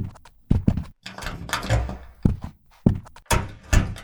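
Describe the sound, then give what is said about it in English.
A door thumps shut amid a run of heavy, uneven thuds and shuffling footsteps as people walk out. The knocks are fairly loud, spread across several seconds with no talking. “the bad guys just walked out the door.”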